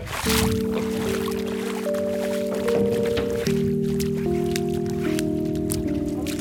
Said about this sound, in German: Die ersten Schritte. Hier reicht uns das Wasser noch bis zu den Knien. Und dann endlich, nach dem ganzen Anlauf der letzten Stunden, Fühlungnahme. Die nackten Füße im schwarzen Schlick. Kalt ist er, weich und schlüpfrig.